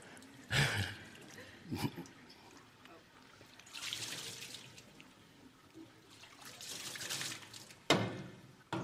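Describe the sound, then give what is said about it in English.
Water pours and splashes in two hissing stretches into a container being filled until it overflows, with sharp knocks and clatters at the start and end. Faint voices can be heard in the background. “We really gotta make this thing overflow. Yeah, let's overflow it.”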